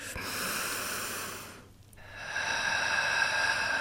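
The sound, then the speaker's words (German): A slow, deep breath drawn in with a soft airy rush during a guided breathing exercise, breathing in through the pelvic floor, a brief pause of near silence, then a long steady exhale, with no talking. “Und wenn Sie eingeatmet haben, den Faden hoch, ganz egal wie weit Sie hochkommen, dann drehen Sie in der Mitte um und atmen wieder runter.”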